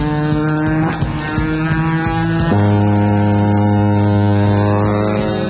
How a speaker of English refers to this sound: Whoa. That sounded like a big truck. There's a truck back there, man. Hey, he's coming fast. Pull over the side. Let him go by. Now that dude was traveling,